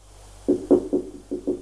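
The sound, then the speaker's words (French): Five dull, low knocks on a bedroom door, made by a doctor, three in quick succession, a short pause, then two more, with no voices. “Frappe à la porte de la chambre.”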